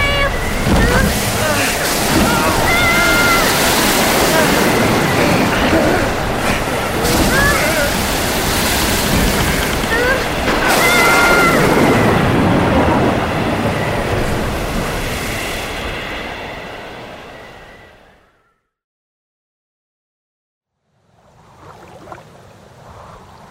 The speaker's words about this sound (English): The storm is coming! Hold on tight! It's going to be windy!